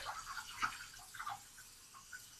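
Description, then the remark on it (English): Hot water from a shower massage head runs into a bathtub at home, a soft, steady splashing with small irregular spatters and bright bursts, fairly quiet, no voices. “So, just running the water.”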